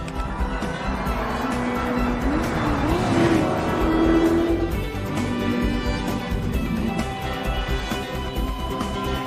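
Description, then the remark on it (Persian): A car engine roars steadily at speed, and a sharp tire squeal cuts in briefly midway as the vehicle corners hard, then the engine drone carries on loudly. “ماشینش خوش فرمون قربان.”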